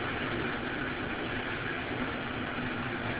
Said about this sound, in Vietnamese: Hôm nay thì nó mưa rất là nhiều. Và cũng như ở chúng tôi cái nóc nó to, cho nên vì vậy nghe rất là lớn. Mong quý vị có thể nghe được.